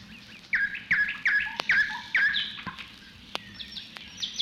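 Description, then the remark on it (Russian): Many birds waking with the first rays of sunrise on a May morning chirp and warble at once in an old pine forest, a dense overlapping chorus of bright, repeated calls with sharp clicks scattered through it and no voices. “И с первыми лучами просыпаются птицы. Их голосами полнится старый бор.”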